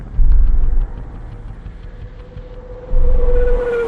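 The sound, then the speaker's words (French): A car rumbles along a street, its low engine noise swelling, easing off, then surging again, with a rising whine near the end over a steady outdoor hiss. “Il se revoit avec Iris dans une rue.”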